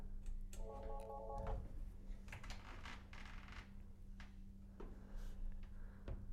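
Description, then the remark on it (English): A brief electronic telephone tone sounds early on over a steady low electrical hum, followed by scattered clicks and line noise as a phone call is accepted on the studio line of the radio show Sports Talk and the Bird; no one speaks. “We're gonna accept a phone call right now.”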